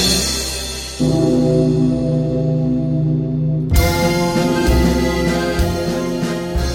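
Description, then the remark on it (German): A deep bell of Cologne Cathedral (Kölner Dom) tolls twice, its low, humming tone swelling loudly and sustaining with rich shimmering overtones, the second strike layering over the lingering ring of the first. No voices are heard. “Wie'n Amen und ein Om ist der Glockenschlag um.”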